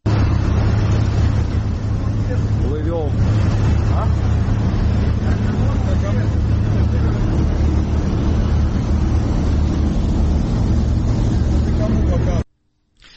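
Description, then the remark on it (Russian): A loud, steady low engine drone of a ferry's motors, with military trucks on board, rumbles throughout, with faint voices now and then, then cuts off abruptly near the end. “выложил видео, снято на этом пароме.”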